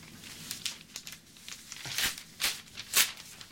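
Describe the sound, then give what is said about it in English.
An article being torn out of a newspaper, a series of crisp, crackling rips and crinkles over a few seconds, growing louder toward the end, with no voices. “He tears another article from the paper.”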